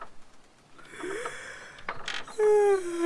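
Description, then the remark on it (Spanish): A drawn-out yawn from the oak tree character at bedtime: a breathy intake that swells into a voiced, falling groan near the end, fairly loud, with no talking. “Roble, bostezando.”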